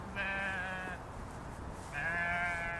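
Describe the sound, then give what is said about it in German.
Two drawn-out bleats from a mixed flock of crossbred Merino, black-headed meat and mountain sheep grazing in a meadow, each lasting close to a second, separated by a short pause and heard fairly clearly over a soft outdoor background hiss, with no one speaking. “Die Schafe verteilen sich auf der Wiese, bewegen sich immer langsamer, senken die Köpfe, fressen.”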